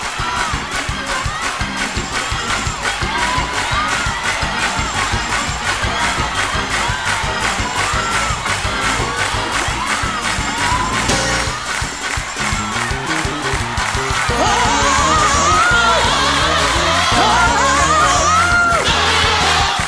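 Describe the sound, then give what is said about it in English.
An audience shouts and cheers loudly and continuously, voices overlapping in a dense, excited roar that swells even louder toward the end, with scattered whoops rising above the crowd. “Who is shouting, singing?”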